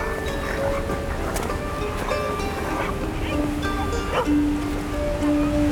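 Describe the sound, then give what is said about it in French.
Heavy surf pounds and breaks all around a small tropical atoll in a constant, loud, deafening roar while strong, incessant wind rushes through the fronds of sparse coconut palms, the thick wash of sound steady throughout, with no pauses. “Ce qui ne change pas, c'est ce vent incessant qui malmène les palmes des rares cocotiers et ces puissantes vagues qui déferlent tout autour dans un perpétuel grondement assourdissant.”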